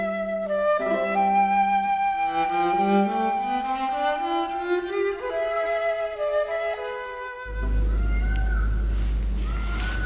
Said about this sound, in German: Ja, jetzt hört man sogar hier innen im Unterhaidischen Kabinett die Pfauen schreien. Das ist vielleicht auch ein Zeichen dafür, was für eine leichte Bauweise haben in diesem Haus.